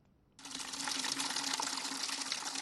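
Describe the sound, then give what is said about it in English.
Water splashes and rushes in a steady, continuous stream that starts abruptly after a brief quiet moment, loud, with no one speaking, as emergency medical workers and civilians clear dirt and debris from water beneath houses on the shores of Cameroon's Bakassi Peninsula. “Emergency medical workers, together with some civilians, cleared dirt and debris from water beneath houses on the shores of Cameroon's Bakassi Peninsula.”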